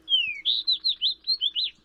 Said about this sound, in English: When you step outside on a particularly sunny day this winter, even visitors from the far north, like this fox sparrow, may be warming up for the coming spring.